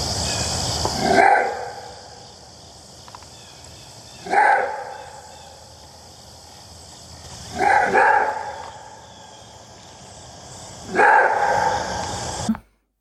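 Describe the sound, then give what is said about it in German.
Four loud, hoarse barking screams of a maned wolf, evenly spaced about three seconds apart, each a harsh, rough call over a faint steady background hiss; no one speaks. “Also wenn ihr jetzt da einen Schrei gehört habt, dann wisst ihr jetzt, wie der Mähnwolf klingt.”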